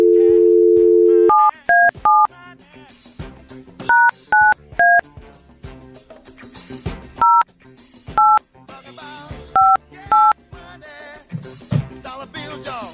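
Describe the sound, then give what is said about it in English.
A brief dial tone gives way to a phone number being keyed in, about a dozen loud, clear touch-tone beeps in irregular clusters with short pauses between groups of digits. “So, dial a number.”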